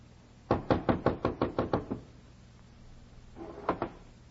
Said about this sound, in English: Come up to a cold door with a long slot at the top. Knocked where it said knock.